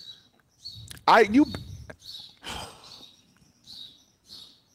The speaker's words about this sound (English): They're birds, Steve. I know, but they're birds chirping. Yeah, but it went from one to no, seven. They've always been out here. They're just hanging out. You just didn't hear them.